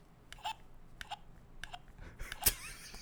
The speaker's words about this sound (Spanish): Tiene hipo, güey.